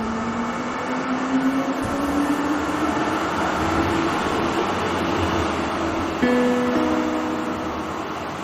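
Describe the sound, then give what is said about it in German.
An S-Bahn commuter train heading toward Stadelhofen runs steadily with a loud, continuous rumble and a rising electric motor whine as it picks up speed, with no talking. “Unser Weg führt uns jetzt weiter zur S-Bahn, die Richtung Stadelhofen fährt.”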